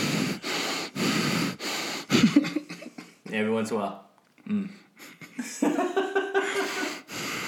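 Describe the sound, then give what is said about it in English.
Loud, rhythmic heavy breathing from a man holding his phone while recording a video, with a few noisy gasping breaths in a row, followed by people talking and laughing over it. “Dang, all you hear is breathing.”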